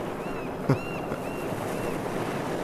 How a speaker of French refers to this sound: Laisser ces beaux bruits marins-là jouer.